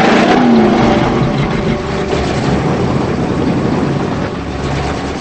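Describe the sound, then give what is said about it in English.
A blue car's engine rumbles loudly as tires grind over gravel, a steady, gritty noise that continues throughout and eases slightly toward the end as the car backs away. “As she struggles to sit up, the blue car backs away.”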